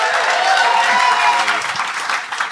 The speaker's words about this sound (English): And for the listener at home, yes, the audience were trying to slow clap us off during that.